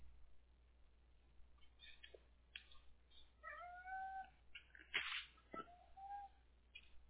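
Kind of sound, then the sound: animal, hungry cat meowing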